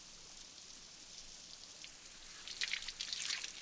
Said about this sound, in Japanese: あとは泡を流しちゃおう。